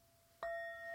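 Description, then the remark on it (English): A bell is struck once, a clean metallic strike that blooms into a sustained ringing tone with bright overtones, heard alone with no talking and continuing to hum steadily. “sound of the bell.”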